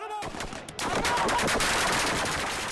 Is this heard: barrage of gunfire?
yes